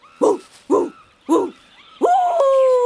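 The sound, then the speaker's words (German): A person mimics a dog, giving three short, evenly spaced barks, then breaking into a long, steady howl-like note that holds to the end. “Ich kann gut bellen.”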